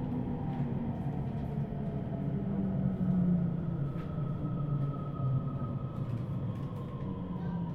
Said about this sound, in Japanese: 後ろの車のドアは開きません。この電車は越後湯沢行きです。